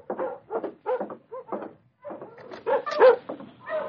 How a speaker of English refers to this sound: Dogs outside are stirring.